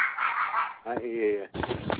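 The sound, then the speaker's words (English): A female dachshund puppy barks in loud, high-pitched, squeaky yaps: three back-to-back bursts over two seconds, the middle one drawn out into a whiny, honking tone. “Hey, whose killer dog is that?”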